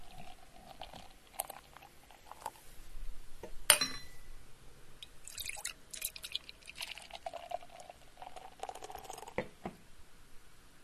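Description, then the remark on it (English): A small amount of vanilla extract being poured, heard as a quiet trickle with light glassy clinks and soft handling noises, including one sharper clink early on. No one speaks. “He's poured the vanilla. That's done. Vanilla's in.”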